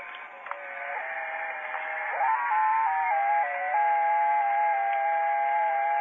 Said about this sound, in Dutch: dan is het echt wel interessant om die digitale frequenties in de gaten te houden. Want dan hoor je daar vrolijke fluitjes, noem ik dat altijd. En ja, hoe sterker dat is, hoe mooier de openingen zijn.